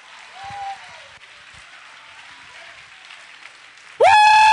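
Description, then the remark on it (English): An audience claps steadily at night in praise of God, a dense, even patter of many hands lasting several seconds, before a loud, sustained high tone suddenly cuts in over the applause at the end. “Somebody clap your hands and give God the best praise you have on tonight.”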